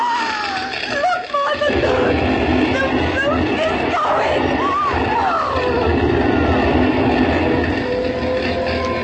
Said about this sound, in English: And here comes the fire engine.